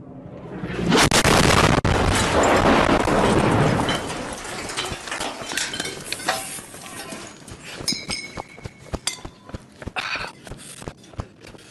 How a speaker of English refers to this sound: I will put a trigger warning on it. It's, you see an explosion. You don't see any blood. You don't see anything graphic, but this is some hardcore stuff.